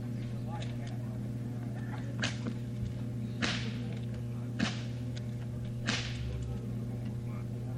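A 12-foot whip, used to cut straws held in a man's mouth, cracks four times at roughly one-second intervals, each a sharp, loud snap cutting through a steady low hum and faint background murmur.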